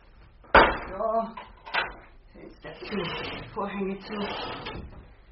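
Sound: window being shut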